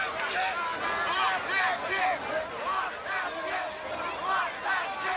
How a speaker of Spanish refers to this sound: También se escucha un par de veces a una multitud gritando al unísono, Block that kick, bloquea esa patada.